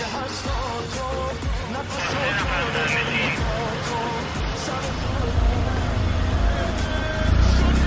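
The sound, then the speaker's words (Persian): A police car's engine idles and then the car pulls away, its low rumble swelling louder toward the end, with muffled voices and scattered clatter in the background. “ماشین پلیس راه میفته.”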